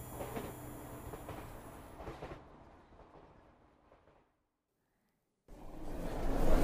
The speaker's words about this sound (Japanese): 電車のアナウンスが聞こえた。ここは私の乗った駅だった。この電車は環状線、人がたくさん降りていく。